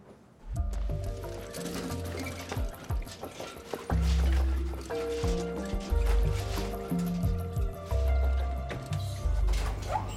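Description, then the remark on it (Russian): Dirty water sloshes and splashes around in a bucket, with several continuous pours and drips. Low tonal background sounds run underneath, and nobody speaks. “Ты пришел с одной целью — отомстить и сгвоздав мне ковер грязной водой. Забирай ведро и дай мне работать.”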